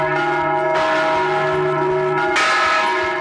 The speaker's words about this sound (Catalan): El fons de la sintonia m'ha d'anar acompanyat de campanes.